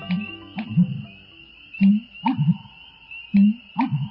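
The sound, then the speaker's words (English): A loud, resonant bird call near a marsh with cattails on a spring morning repeats in low, hollow hooting phrases with a bouncy, comical rhythm, each burst echoing slightly, while a thin steady whine runs faintly in the background. “One fine spring morning as you walk near a marsh, you are stopped in your tracks by a loud, reverberating call with a cadence that seems lifted from an old cartoon soundtrack.”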